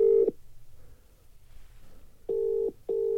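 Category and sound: signal or alarm, telephone keypad dialing tones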